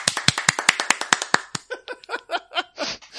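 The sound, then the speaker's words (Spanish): Brief applause: about eight sharp, evenly spaced handclaps in a quick steady rhythm, trailing off into a string of short voiced bursts that sound like laughter. “Gracias, un aplauso.”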